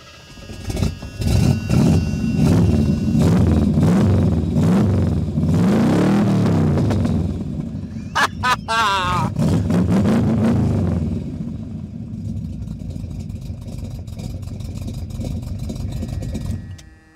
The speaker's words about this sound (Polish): Ten wydech to jedna z fajniejszych rzeczy, jakie dołożyłem do tego samochodu. Pozwolicie, że... O, znajdę tu kluczyk. Oczywiście samochód na gaźniku, więc ze dwa razy gazu mu dopompujmy.